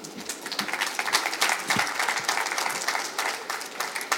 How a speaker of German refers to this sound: Applaus bitte.